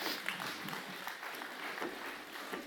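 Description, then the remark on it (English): A crowd applauds steadily for cookies, many hands clapping in a dense, crackling wash that holds an even loudness for the whole stretch, with no voices rising above it. “I like that you all clap for cookies.”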